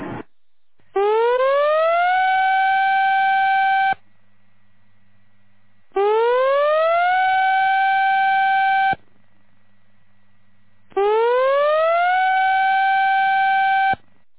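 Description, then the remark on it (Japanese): A loud outdoor tsunami warning siren, part of a major tsunami warning drill broadcast, sounds three times, each blast rising in pitch and holding steady for about three seconds before cutting off, with short silent pauses between. No voices are heard. “大津波警報。東日本大震災クラスの津波が来ます。”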